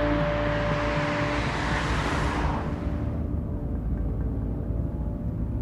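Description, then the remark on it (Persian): A car drives along a street at night, its steady engine hum and road rumble loud; the brighter tire hiss fades out about halfway, leaving a low droning rumble. No one speaks. “شب، تصویر ماشین بهمن تو خیابون.”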